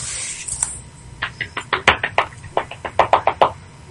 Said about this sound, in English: I hope you're clapping and not spanking it, because that's just wrong. Yes, I'm clapping.